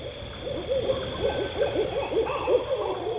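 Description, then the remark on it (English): An owl hoots repeatedly in a steady series of soft, low calls, set against a constant high droning of insects in a quiet nighttime woodland. “I would walk through the dark woods with the sounds of frogs, crickets, and owls around me.”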